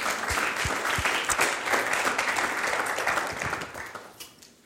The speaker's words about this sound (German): Ja, genau, wir können gerne mal für die klatschen.